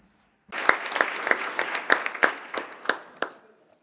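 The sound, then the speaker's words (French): A burst of applause from the seated meeting of the parties, electing Germany and Portugal as vice-presidents by acclamation, many hands clapping at once with a few sharper individual claps standing out, lasting about three seconds before tapering off. “Je souhaite donc inviter la réunion des partis à élire l'Allemagne et le Portugal comme vice-président par acclamation.”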